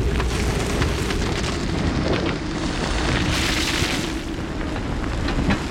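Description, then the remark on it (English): An avalanche thunders down a mountain toward the valley in a continuous, heavy roar, deep rumbling mixed with a hissing rush of snow and ice that swells briefly midway and stays loud throughout. “The avalanche passed me and swept on down toward the valley, the thunder of it dying in the distance.”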